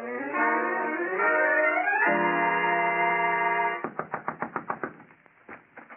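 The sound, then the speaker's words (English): A droning, rising musical tone gives way to rapid pounding on a door, about eight loud, evenly spaced thuds, then a short pause and a few more blows. “You scared me out of my wits with that pounding.”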